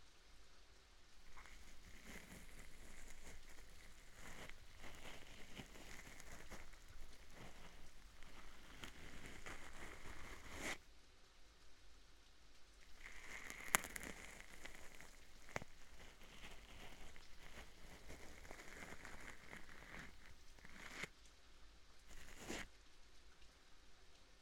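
Steady rain patters onto a hard surface, a dense hiss of drops with occasional sharper taps and small swells, continuous throughout, with no one speaking.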